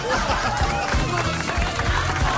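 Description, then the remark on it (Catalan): A crowd applauds steadily, a dense wash of clapping mixed with murmurs and a few laughs, sustained at an even level throughout. “Estem aplaudint això, eh?”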